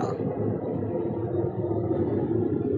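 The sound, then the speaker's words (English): A steady, heavy roar of an airplane passing overhead, a broad low rumble that holds at an even loudness throughout, with no voices. “It's amazing how loud those planes are.”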